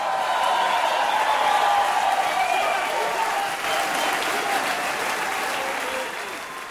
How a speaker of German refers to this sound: Wieder einmal haben am Rotstab-Kabarett Städtli-Singers Publikum begeistert. Der Schlussapplaus war entsprechend kräftig gewesen.